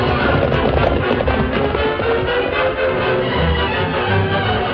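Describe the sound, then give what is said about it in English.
The horses Silver and Scout gallop steadily down from a cliff with riders aboard, a loud, continuous drumming of hooves with a dense, muffled rumble throughout and no voices. “As Silver and Scout bore their riders down from the cliff”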